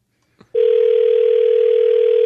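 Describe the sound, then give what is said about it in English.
A brief click, then a steady, unbroken telephone dial tone starts as a call is placed to the speaker's wife, humming on at an even, fairly loud level with no voices over it. “We'll call my wife.”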